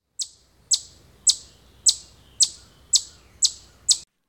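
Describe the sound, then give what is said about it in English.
A chipmunk gives a steady series of eight loud, sharp chips, repeating about twice a second, each high-pitched and abrupt, ringing out in the woods against a quiet background. “From March through November, chipmunks punctuate the woods with their loud chipping.”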